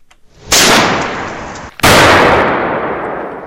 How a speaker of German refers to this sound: In der St. Galler Innenstadt klopft und tätscht es regelmässig. Und das nicht nur am 1. August oder am Silvester. Das ganze Jahr lang hört man immer wieder Explosionen.